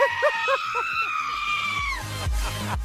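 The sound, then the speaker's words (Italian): Real goats bleat in short, quavering bursts in place of the vocals of a famous dance song, over a pounding bass beat and sustained synth tones. The bleats are loud and repeated rhythmically like a melody. “Il bello è che sono delle capre vere che cantano.”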